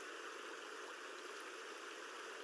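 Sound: babbling stream water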